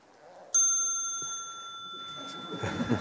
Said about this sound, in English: I thought, first of all, we will try this bell out, check it out, see if it works nicely here. See what it sounds like.